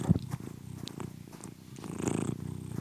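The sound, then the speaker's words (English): A female domestic cat named Charlie purrs steadily while being petted, a continuous low rumbling vibration with a gentle rhythmic pulse from breath to breath, fairly loud and with no talking over it. “Want to hear my cat purr?”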